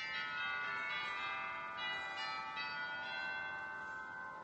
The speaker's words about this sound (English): This has some of that. There are some tuned sleigh bells. And, of course, chimes.